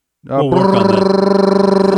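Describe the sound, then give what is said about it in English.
A voice imitates a drum roll with a rapid, buzzing rolled-tongue sound, steady and fairly loud, lasting under two seconds with a fast rhythmic flutter throughout. “That was terrible drum roll.”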